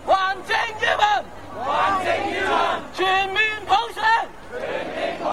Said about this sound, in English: These slogans, shouted today by about 350,000 Hong Kong people, reflect the general political mood in the ancient British colony.